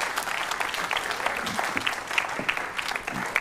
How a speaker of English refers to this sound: Big round of applause for these. They're really good.